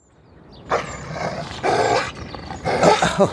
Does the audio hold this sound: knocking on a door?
no